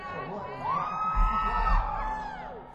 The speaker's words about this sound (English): Now the next gentleman, no matter where we travel in the world, when we call his name, the ladies scream real loud.